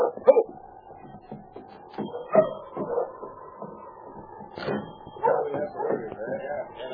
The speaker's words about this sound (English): For instance, when he arrived in town with a dog team... Ho there! Ho! Ho!